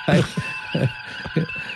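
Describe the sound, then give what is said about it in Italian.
Noise inside a car, imitated by a voice: three short, buzzing low bursts repeat at a steady beat over a faint, constant high-pitched tone. “Pare che invece dentro le macchine facciano così, specialmente quelle che vendono a De Santo, fanno questo rumore qua.”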